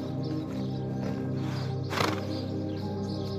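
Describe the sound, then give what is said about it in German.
Horses standing in the dust at a small ranch between jungle and desert, in the afternoon, snort and shift, hooves clip-clopping softly on the ground, with one louder breathy snort bursting out midway over a steady low background rumble. “Hier erwarten dich Zäune aus hellem Holz und Pferde, die im Staub stehen.”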